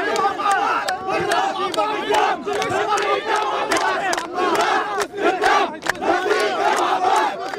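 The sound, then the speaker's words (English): A large crowd of residents mobbing Arafat's bulletproof limousine beside a demolished apartment building chants his name and shouts together in a loud, dense roar, with repeated rhythmic vocal bursts rising above the sustained din throughout. “When Arafat stepped down from his bulletproof limousine to look at the rubble, residents mobbed the car, chanting his name.”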